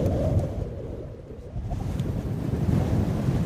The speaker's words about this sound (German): Der Wind bläst den Sand von den Dünen. Bei Bertonti, ganz im Süden Madagaskars, sieht man das türkisblaue Meer und den beigefarbenen Sand.